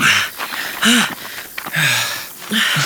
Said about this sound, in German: keuchte, als sie nach dem langen Aufstieg oben ankam.